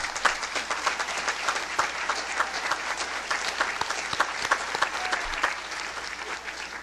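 A room full of people gives a round of applause for the speaker's chaperone, dense overlapping claps holding steady at a fairly loud level for several seconds with no voices standing out.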